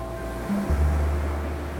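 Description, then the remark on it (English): Pacific Ocean surf rolls onto a sandy beach in San Francisco in a steady, low rumbling wash that swells slightly partway through and then holds at a constant roar, with no voices. “He dropped the belt he always carries, threw himself on the sand that was warm and fine, and listened to the sound of the surf.”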